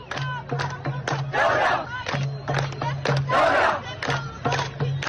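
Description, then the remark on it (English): A large crowd of protesters in Sudan, surrounding a young woman standing on top of a car, chants loudly in rhythmic, repeated bursts, many voices shouting together in unison with swelling peaks of noise, dense throughout. “There's a large crowd of protesters surrounding her. There's also video of this moment.”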